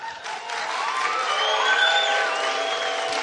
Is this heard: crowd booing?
yes